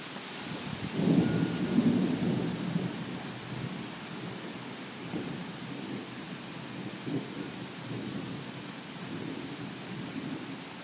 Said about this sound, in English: So anyway, that is the thunderstorm so far. And I don't think we're done with this. We don't have a front. This is just a random storm. Holy cow, here we go. Wind and rain. Ooh.